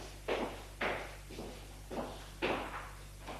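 Someone knocks on a door with six evenly spaced, fairly soft raps, about two per second, with no voices around them.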